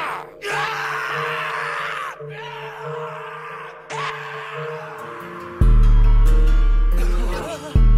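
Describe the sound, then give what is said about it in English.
A person screams in long, strained bursts with wavering pitch, breaking briefly between cries, then erupts into a much louder, deeper roar near the end. No speech. “Scream.”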